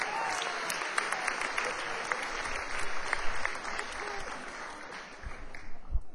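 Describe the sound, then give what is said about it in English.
Steady audience applause for the venue's members, a dense wash of many hands clapping at a fairly even level for several seconds, with no talking over it, easing slightly near the end. “Please, a round of applause for our members.”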